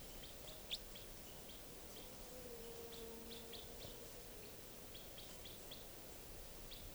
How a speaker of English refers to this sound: Pointing at wild bird. The juvenile is still around. It's been coming down onto the cages. I could easily get a shot at it right now. This is it calling.